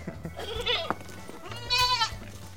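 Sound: goat bleating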